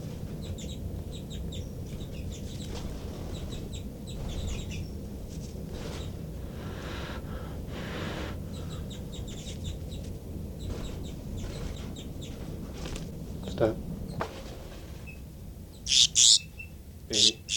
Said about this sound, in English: Start recording alarm calls of a baby bird.